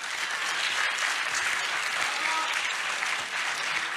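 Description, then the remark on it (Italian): Steady, dense applause from a large audience for Daniela Morozzi, loud and sustained for the whole stretch with a continuous crackle of many hands clapping at once. “Grazie davvero, siamo alle ultime battute, però naturalmente a questo punto io vi chiederei un grande applauso per Daniela Morozzi.”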